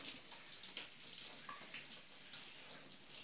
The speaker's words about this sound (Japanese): 左腕も泡を流して、肩から背中の湯を流して、背中の泡を、そのまま私の泡も流してしまいますね。